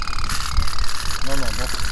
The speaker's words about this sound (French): Ah, il y a le gars qui vend. Il fait tourner ses petits bateaux.